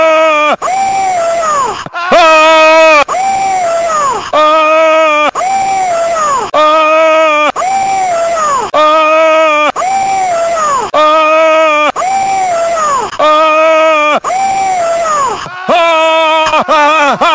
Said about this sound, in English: So it's a shouting match you want, eh? Well, game on.